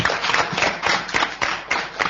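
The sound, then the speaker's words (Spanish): Audience applause at a short-story contest gathering, again for a veteran woman participant, a dense, steady patter of many hands clapping at once, fairly loud and sustained without talk over it. “Bueno, el aplauso de nuevo para ella.”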